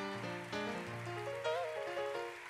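An audience claps its hands in a dense, crackling wash of applause, steady throughout, over sustained organ-like chords that shift pitch, with no one speaking.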